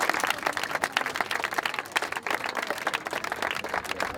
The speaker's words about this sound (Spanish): Así que un aplauso también para todo el mundo.